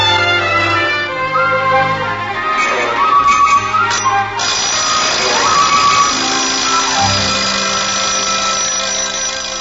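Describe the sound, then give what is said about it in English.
An alarm clock in a house, set for 5:30 a.m. but going off at 7:30, rings loudly and without a break for nearly ten seconds, a bright, rattling bell tone with no voices over it. “It's that silly alarm clock again, Ma. I'll turn it off.”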